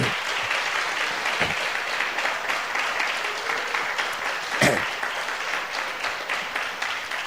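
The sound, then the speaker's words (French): Sustained audience applause welcoming a group of people who stand up, a dense steady wash of many hands clapping at an even level for several seconds, with no voices standing out. “Et donc, levez-vous encore une fois et j'aimerais que vous puissiez les accueillir, si vous permettez.”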